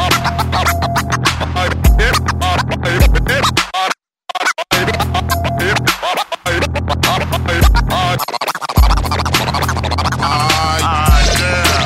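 Rapid turntable scratching by a DJ over a steady beat, with choppy, pitch-sliding bursts and rhythmic stutters, plus brief dropouts of near silence before the loud groove resumes.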